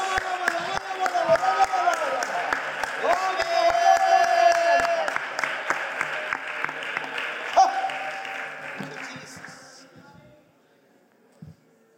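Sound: audience clapping and cheering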